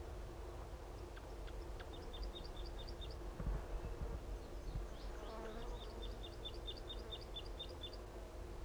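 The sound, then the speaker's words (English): Bird song in two runs of rapid, evenly spaced high chirps, each run lasting a few seconds, over a steady low droning hum. No one speaks. “This could be a completely different bird.”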